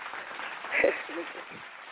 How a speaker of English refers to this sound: Let me go ahead and throw some claps on it.